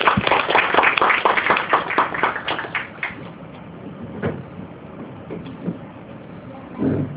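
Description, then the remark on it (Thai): An audience applauds to welcome a professor, the Mahidol University Council chair, who is about to give a special lecture. The clapping comes in a dense burst for about three seconds, then thins out and fades to scattered, faint claps and low background noise. “ขอเสียงปรบมือต้อนรับท่านอาจารย”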